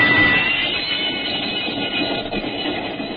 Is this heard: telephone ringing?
no